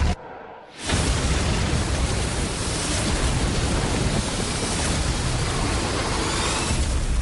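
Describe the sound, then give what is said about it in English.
After a brief quiet moment, a loud, dense roar of buildings crashing into each other and collapsing in a film trailer erupts and rolls on continuously, a thick wall of rumbling debris noise with no clear separate impacts. “Pretty much crashing and banging as buildings crash into each other.”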